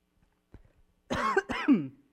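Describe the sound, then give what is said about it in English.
A person coughing after a quick drink of water: two harsh coughs in quick succession, the second ending in a throaty rasp, preceded by a few faint throat clicks in an otherwise quiet moment. “When I try to do a quick drink of water, I end up just coughing.”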